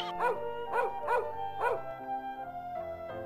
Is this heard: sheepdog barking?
yes